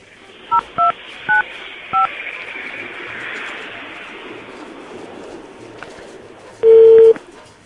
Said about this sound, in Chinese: 再拨一次看看。